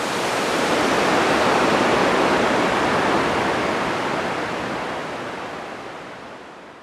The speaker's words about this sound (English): Am I turning around on waterfalls? I think I am. It seems that the Jeju variety of waterfall, it's doing it for me. It's working out.